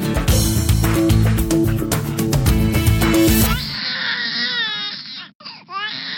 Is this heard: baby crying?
yes